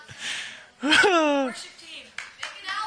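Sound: audience clapping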